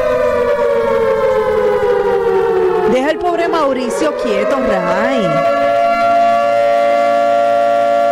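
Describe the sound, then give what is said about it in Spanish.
A loud, sustained alarm siren sound effect, played from a playlist, wails steadily for the whole stretch, its tone sliding slowly downward in pitch, while a man speaks briefly over it partway through. “Prenda la alarma, señoras y señores.”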